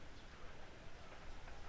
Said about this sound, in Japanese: ああ、結構雨強いね。